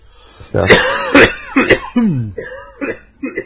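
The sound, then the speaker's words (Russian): A loud coughing fit: several harsh, rapid coughs in quick succession, some with a voiced, strained edge, trailing off into a few weaker hacking bursts. “Простите, прошу. Кашель смехом.”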